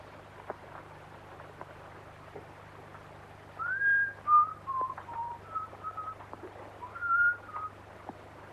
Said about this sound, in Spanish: Vuelve a silbar hacia una jaula de pájaros.